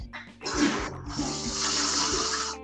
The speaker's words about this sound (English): So can I flush the toilet? Yeah, go ahead.